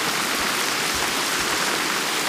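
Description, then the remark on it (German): A steady downpour of rain falls in a dense, continuous hiss with faint patters of drops, fairly loud, with no voices or other sounds. “Ja, ihr hört es. Es regnet.”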